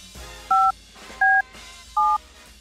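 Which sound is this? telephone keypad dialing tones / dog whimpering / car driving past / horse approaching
telephone keypad dialing tones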